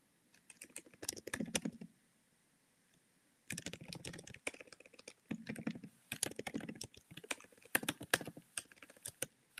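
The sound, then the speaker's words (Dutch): Rapid computer keyboard typing during a live broadcast, in irregular bursts of sharp clicks, pausing briefly for about a second and a half before resuming in quick flurries. No voices. “Zo, typen is echt ineens heel lastig als je live bent.”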